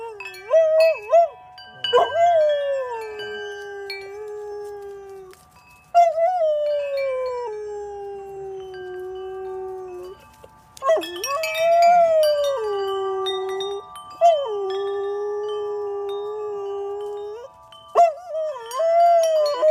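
Small dogs howl in long, wavering, high-pitched notes, several overlapping, with brief yips and whimpers between sustained drawn-out howls.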